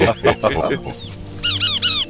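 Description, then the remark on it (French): A brief bit of talking gives way to a small chaffinch's song in a forest: a quick series of three or four bright, arching chirps, clear, repeated in an even rhythm. “Il s'agit d'un petit pinson qui nous indique par sa chanson « Dégagez intrus ou je vous fiente dessus ».”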